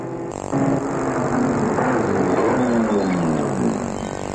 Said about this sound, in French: La voiture s'est arrêtée devant l'entrée.